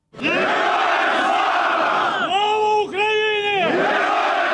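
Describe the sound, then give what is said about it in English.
A large crowd of families in Ukraine cheers and shouts continuously, welcoming home buses carrying prisoners of war handed back by Russia, with several loud, sustained voices rising and falling in pitch above the roar, then the dense cheering carries on steadily. “Well, families gathered to welcome the buses home, some holding portraits of soldiers missing or in captivity.”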